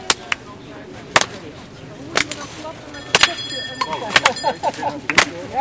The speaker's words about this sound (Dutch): Voor het lied hebben we eerst een ritme nodig. En dat ritme dat gaan we even klappen. Dat is heel simpel. Dat is namelijk dit ritme.